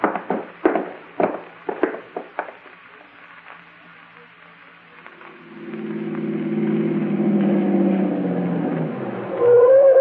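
A car engine rumbles in and grows steadily louder as the car comes up the road, a low droning hum after a few sharp, irregular taps at the start, with no voices.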